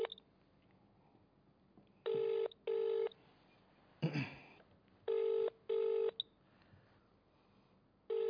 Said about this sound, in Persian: این شماره ای که شبکه کلمه زیر نویس کرده و ما در حال تماس با شبکه کلمه.